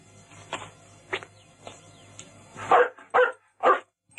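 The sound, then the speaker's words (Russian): A dog barks repeatedly, a few softer, spaced yelps at first, then three loud barks in quick succession, with a low steady hum underneath and no talking. “А вообще-то, поводок нужен, намордник и билет собачий.”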